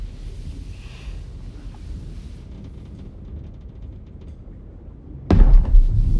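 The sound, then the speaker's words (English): A steady low rumble of wind and water around a boat on open water, then a sudden loud thud or bump breaks in near the end and the noise swells. “We are on a boat in open water.”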